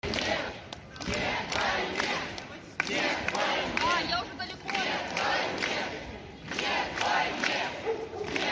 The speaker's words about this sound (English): They're now protesting inside St. Petersburg and are shouting no to the war. And they're saying stuff like, I think it was Putin to the trenches or something weird like that.